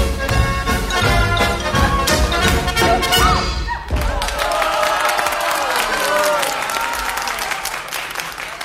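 A musical passage breaks off, then an audience bursts into loud, dense applause that holds steady for several seconds and tapers slightly, with a few voices faintly mixed into the clapping.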